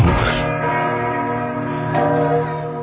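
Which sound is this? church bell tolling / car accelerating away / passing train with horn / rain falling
church bell tolling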